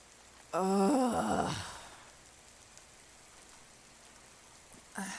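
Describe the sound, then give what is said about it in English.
Light rain hisses steadily in the background, soft and even throughout, with a brief drawn-out groaning vocal sound near the start before the patter continues alone. “It sounds like the rain has finally stopped falling so heavily.”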